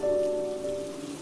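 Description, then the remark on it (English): A soft, steady patter of light rain falling on a surface at night in Kingsland, continuous and even throughout, with a faint low hum lingering underneath. “And tonight, as Liam returned home, the rain began to pour lightly.”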